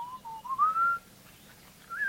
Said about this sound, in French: Et les chasseurs Hasda en Tanzanie, comme les chasseurs Borana au Kenya, utilisent un sifflement particulier pour attirer l'oiseau et pour maintenir le contact avec lui pendant qu'ils le suivent. C'est un sifflement mélodieux. Écoutez.